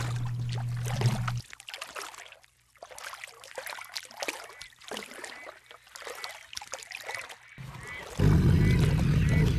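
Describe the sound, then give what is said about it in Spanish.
Water pours and splashes in uneven, bubbling bursts for several seconds, fairly loud, ending in a steady, louder rush of noise. “¡Esto es agua!”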